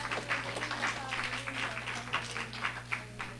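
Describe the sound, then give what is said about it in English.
An audience claps together, a dense patter of many hands with a loosely regular pulse, steady and moderately loud for the whole few seconds over a low constant hum. “Give God a clap offering in the house.”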